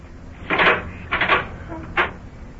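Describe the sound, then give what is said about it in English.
An unlocked kitchen door of a house is opened from the back porch: a rattling clunk of the handle and latch, a second longer scraping creak, then a short knock as it swings, with no one speaking. “Oh, kitchen door wasn't locked.”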